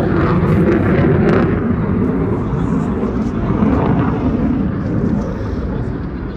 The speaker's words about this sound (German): Every child knows that drones drop bombs. And they're just so visible, so audible.